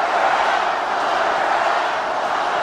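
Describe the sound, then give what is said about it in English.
A large crowd at a Donald Trump rally chants the slogan "lock her up" together as the president mentions Hillary Clinton, a loud, dense roar of many voices that holds steady for a few seconds without letting up. “It's the very familiar lock her up chant.”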